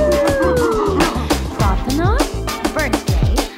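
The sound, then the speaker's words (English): A dog howls in long, sliding tones, falling at first and then rising in short upward swoops, set against a steady, rhythmic musical beat. “My dog says, ah, woo!”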